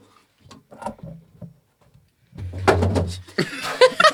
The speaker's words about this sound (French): Un bruit de chute, comment on peut faire? Faites tomber une chaise.